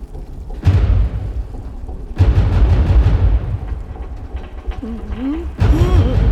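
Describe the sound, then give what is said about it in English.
A heavy mechanical door grinds open in loud, rumbling surges with clanking jolts, a whining metallic squeal rising partway through, then a final heavy thud and rumble. “Prepare to open the door.”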